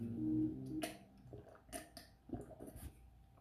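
Someone sips jungle juice: a brief low throaty sound, then a few quiet, wet slurps, swallows and lip clicks in an uneven rhythm, with no talking.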